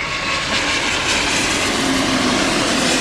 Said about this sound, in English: Dude, that's the Dreamliner. Oh, yeah. I think... No, that's It said Dreamliner on it. No, that's the new 737, actually. But it said Dreamliner, ANA Dreamliner. It did say that on it.